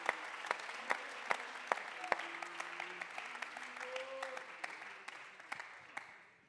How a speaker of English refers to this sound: Somebody ought to be thankful and clap your hands about alguien debe that de estar agradecido en este lugar por eso.